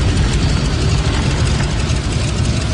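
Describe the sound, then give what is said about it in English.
A loud, steady airplane engine drone idles after landing, a dense low rumble with a broad rushing hiss above it, unbroken for the whole stretch and with no voices. “The landing is smooth. But the number 2 engine will need a complete maintenance check before this plane will fly again.”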